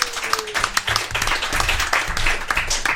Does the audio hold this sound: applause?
yes